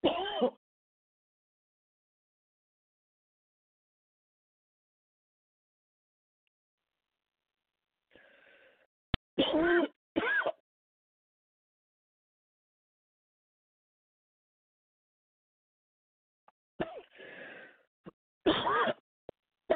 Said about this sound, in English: Excuse me, I start coughing, and sometimes I cannot stop.